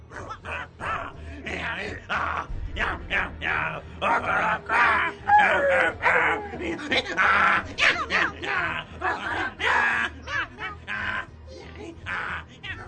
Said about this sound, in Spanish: Y así, el perro ladrando, el burro rebuznando, la gatita maullando, miau, miau, miau, y el gallo cacaraqueando, entraron por la ventana.